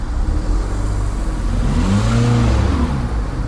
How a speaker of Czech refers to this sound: V ranních a odpoledních špičkách Frýdek Místek připomíná malou Prahu. Kolony aut se pomalu posouvají městem.